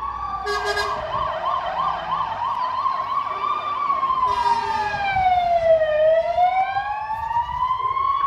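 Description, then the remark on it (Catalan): Wailing fire engine sirens, loud, with a fast warbling yelp early on giving way to slow rising and falling wails over a steady rumble of traffic, as five fire crews head to a house fire on Carrer Hospital in Sant Feliu de Codines shortly after 9 in the morning. “És el so que ha alertat moltes persones de Sant Feliu aquest matí. Cinc dotacions de bombers s'han desplaçat al carrer Hospital de Sant Feliu per intervenir en l'incendi d'un habitatge.”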